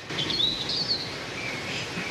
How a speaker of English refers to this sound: break a twig and a flock of birds fly up.